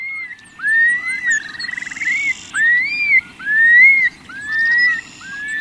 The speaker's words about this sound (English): Every spring, in the grasslands that remain in the Great Basin and Great Plains, you may be treated to the flight display of the long-billed curlew, accompanied by its bubbling song.